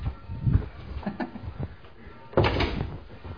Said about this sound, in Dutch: Ik doe even de deur dicht.